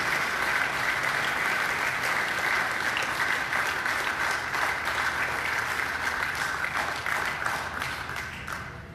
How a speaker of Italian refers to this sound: io dedicherei il film soprattutto a loro perché sono i protagonisti, e vi farei un grande applauso per essere qui dopo 50 anni. Grazie a tutti.